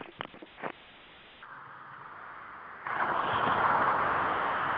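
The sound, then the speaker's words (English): Steady outdoor road noise heard while someone walks to their truck, a broad rushing hiss over a muffled phone-like line, with a few faint knocks at first and a louder surge of passing traffic about midway; no one speaks. “Sounds like somebody's on the road.”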